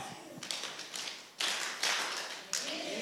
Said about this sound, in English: Okay, this time when he says glory to God, I want you to clap your knees twice, clap your hands twice, and then high five your neighbor and say amen. Ready?